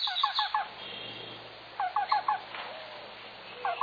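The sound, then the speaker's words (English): A bird calls in short groups of three or four quick, hollow notes, a black-billed cuckoo's call, repeated at intervals about every second and a half against a quiet woodland background. “The black-billed cuckoo is a more northerly species that lives in dense woodland, even conifer forests.”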